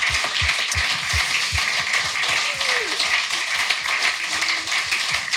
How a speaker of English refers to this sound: Can we just have a massive round of applause for Jack and for Steve? Two men gone too soon.